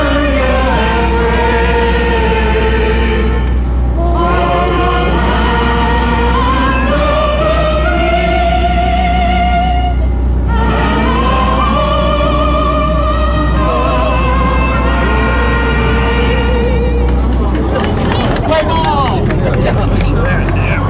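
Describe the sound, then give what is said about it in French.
The American national anthem plays for tourists on a boat about to cross Lake Tiberias, in slow, sustained melodic phrases over a steady low engine drone, with a brief pause between phrases before the music fades into rumbling noise at the end. “Voilà, l'hymne américain sur ce bateau qui va traverser le lac Tibériade.”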